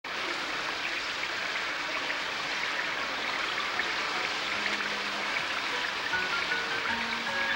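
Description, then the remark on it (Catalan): Steady rain falls throughout, a continuous soft hiss of dense drops with no pauses, moderately loud and even, with faint indistinct tones buried underneath. “La noia contempla la pluja vora una finestra recolzant-se el cap a la mà.”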